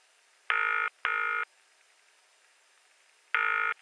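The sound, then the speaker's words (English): A telephone ringing tone sounds in a clear double burst, ring-ring, as a phone call is made, then a pause before another ring starts. The tones are steady and electronic, with no voices. “There's an important phone call I need to make.”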